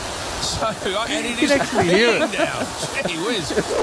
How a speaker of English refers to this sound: What are we, 1 minute in and it's pouring?